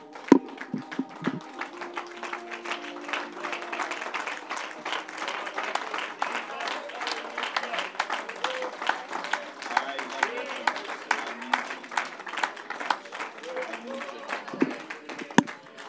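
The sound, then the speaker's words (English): An audience claps steadily in praise to the Lord, a dense, sustained wave of many hands, with scattered voices calling out faintly beneath the applause. “Why don't we just give the Lord a hand clap of praise today?”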